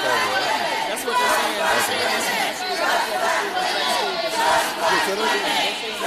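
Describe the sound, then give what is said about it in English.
A dense crowd of Stacey Abrams supporters, organized by her campaign staff, shouts and chants continuously to shout down rival candidate Stacey Evans. The shouting is loud and sustained, with rising surges of yelling drowning out any single speaker. “Stacey Evans is white, and the Stacey Abrams campaign staff began organizing the crowd to shout,”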